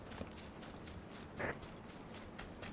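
Faint, quick footsteps from a video game tap along in a steady, even rhythm over a low background hum, with one slightly louder scuff midway and no one talking.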